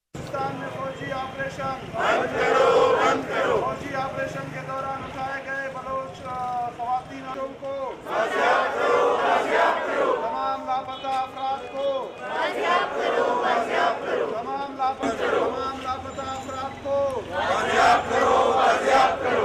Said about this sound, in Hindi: एक मुजाहरा लापता अफराद के रिश्तेदारों की तंजीम voice for Bloch missing persons, human rights commission of Pakistan और बलोच ह्यूमन राइट्स ऑर्गेनाइजेशन की जानिब से मुश्तरका तौर पर मुनक्किद किया गया। मुजाहरे के शुरका ने अपने मुतालबात के हक में ये नारे लगाए।